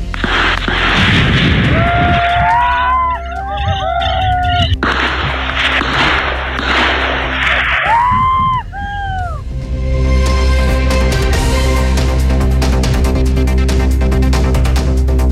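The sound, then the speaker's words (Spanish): Loud, chaotic gunfire in the open, with sharp bursts cracking out over shouting voices, then a long stretch of dense, rapid shots and rumbling noise toward the end, during an exchange of shots as Carabineros police enter and then withdraw from a rural area of Temucuicuy in an operation to arrest five people. “No hubo heridos, pero sí hubo incidentes respecto de enfrentamiento con disparos.”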